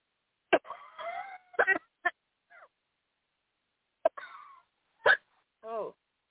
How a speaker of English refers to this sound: Yep, just give a big cough. Come out, you foul spirits.